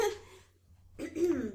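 Two short, raspy coughs or throat-clearing sounds from a person with a cold and the sniffles, separated by a brief silence, the second louder and slightly longer than the first.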